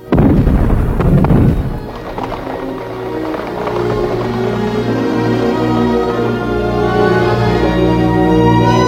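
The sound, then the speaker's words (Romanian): Cannon fire from 200 guns of Napoleon's army aimed at Russian troops opens with a loud, rumbling blast lasting a second or two, then gives way to a steady, humming tonal backdrop that continues evenly to the end. “Sire, la ordinul înălțimii voastre am îndreptat 200 guri de tune asupra trupelor rusești. Focul nostru e secere, dar ei nu se clintesc.”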